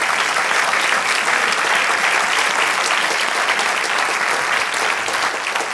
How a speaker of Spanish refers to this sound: Den aplausos al Señor, no deje de adorarle.